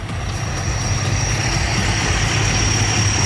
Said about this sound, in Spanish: Esto es Avenida Libertad. Tenemos amplio contingente de personal de bomberos, carabineros en el lugar. Avenida Libertad, o sea, calle Libertad, completamente copada con carros de bomberos.